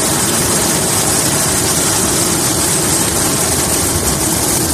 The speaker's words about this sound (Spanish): Es el sonido del helicóptero trasladando con vida alguno de los 104 inmigrantes que han logrado ser rescatados del naufragio de un pesquero cerca del mar Jónico, frente a la costa de Grecia.